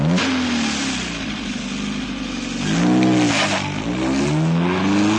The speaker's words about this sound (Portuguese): Auto velocidade. Do kart para o ronco dos grandes motores.